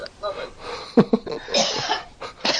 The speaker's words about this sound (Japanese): ものすごい咳吐いて ますけど。ちょっと水飲んでもらえるかな。全部拾ってるけど。